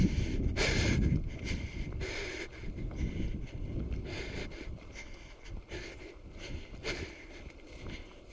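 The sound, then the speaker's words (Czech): Wind rises and buffets the microphone outdoors on a small open square in front of a pyramid, a steady low rumble with a strong gust near the start and smaller surges after it. Nobody speaks. “Zvedá se vítr.”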